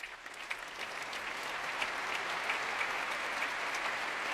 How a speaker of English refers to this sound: And that applause for Pavel Yervy, joining the Orchestre de Paris on the Royal Albert Hall stage to conduct Pärt's Cantus in Memoriam, Benjamin Britten.